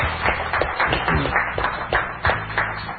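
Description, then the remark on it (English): An audience claps and cheers for the Lord for about three seconds, a dense run of sharp, uneven hand claps with some cheering mixed in, loud and sustained throughout. “Give the Lord a cheer.”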